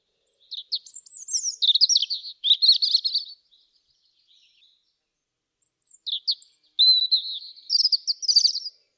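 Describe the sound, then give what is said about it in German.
A European robin sings two clear phrases separated by a short pause, its high, thin notes trilling and warbling with a liquid, varied quality, alone without any voices. “Wie erwähnt, singen Rotkehlchen das ganze Jahr über. Melancholisch, wehmütig, perlend, feierlich, abwechslungsreich.”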